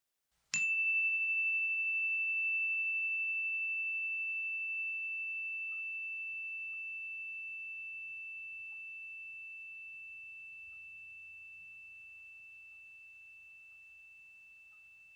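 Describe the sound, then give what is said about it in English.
A single clear meditation chime is struck once at the start of a loving-kindness meditation, then its bright ringing tone slowly fades away over many seconds, alone in near silence. “We begin and end this meditation with the sounds of a chime.”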